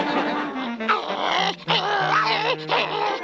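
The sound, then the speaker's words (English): A small dog, Loud Rock's, attacks with loud snarling growls broken by sharp yips, a frantic, nearly continuous flurry with only a brief pause in the middle. “That little dog couldn't hurt a fly.”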